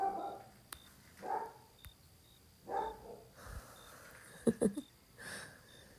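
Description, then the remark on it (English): Dogs guarding a house bark in a handful of separate bursts spread over several seconds, sounding muffled, with a couple of sharper yelps near the end and no one talking. “The dogs are just guarding the house, not letting anyone get in or get out.”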